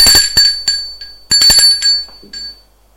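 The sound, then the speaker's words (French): A doorbell at a flat in a run-down apartment building rings in two bright, metallic bursts with a rapid rattling strike, the second ring slightly longer, then fades to quiet. No one speaks. “Il sonne.”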